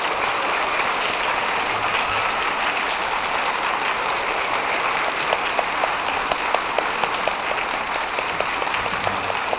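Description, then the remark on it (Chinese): Sustained applause from a large crowd at a Buddhist Dharma assembly, welcoming radio station director Lu Junhong to the stage: a dense steady wash of clapping that carries evenly throughout, with a few sharper individual claps standing out in the second half. No one speaks. “让我们用最热烈的掌声送给卢台长，请他上来。”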